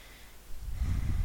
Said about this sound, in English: And I invite you to close your eyes and breathe normally. Noticing how your breath naturally slows down as you relax more with each breath. Breathing in from the nose